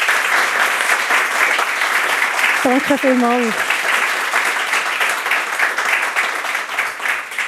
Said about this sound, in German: Begrüße bitte mit einem herzlichen Applaus